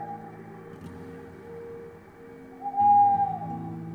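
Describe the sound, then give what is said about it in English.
An owl hooting, a hollow whistle-like tone sounding twice, briefly at the start and more loudly near the end, over a low, steady droning background. No one speaks. “An owl was hooting. Hoot-hoot.”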